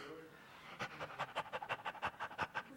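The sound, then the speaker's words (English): Several people pant heavily in quick, rhythmic bursts of breath, like thirsty dogs, as if they had no water for a week, starting after a brief quiet moment and continuing steadily, fairly loud. “Everybody's panting now.”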